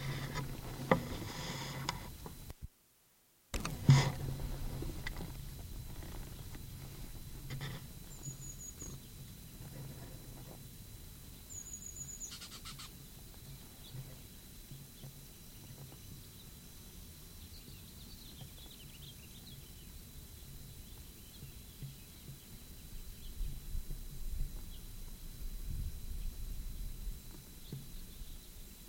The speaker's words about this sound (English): Sweebeak and Terwee Terwee are given by birds down the gully.